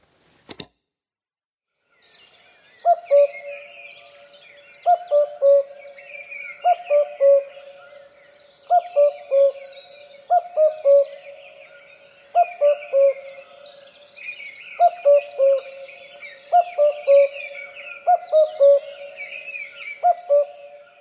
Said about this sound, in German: Das ist dann zum Beispiel ein Kuckuckuck. Und so einen dreisilbig singenden Kuckuck haben wir auch euch noch als Abschluss mitgebracht.